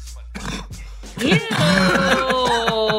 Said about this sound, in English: It's like a frog cough.